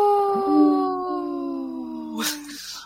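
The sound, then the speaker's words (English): A person imitates a wolf with a long, sustained howl, a steady mournful tone that slowly sinks in pitch over a few seconds, ending with a brief breathy burst. “A somber howl.”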